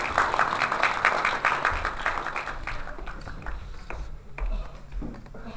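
An audience applauds in a dense patter of many overlapping claps, loud at first, then thinning and fading over the last couple of seconds. No one speaks.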